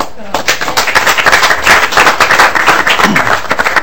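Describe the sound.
A roomful of people breaks into steady, dense applause that carries on for several seconds, with scattered voices mixed into the clapping.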